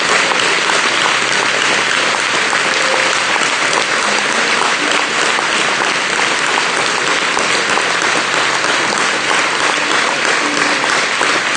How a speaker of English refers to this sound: Let's give Him a big clap and tell Him we love Him tonight. Thank you, Lord Jesus.